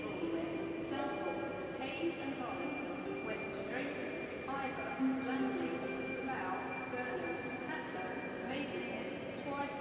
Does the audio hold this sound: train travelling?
yes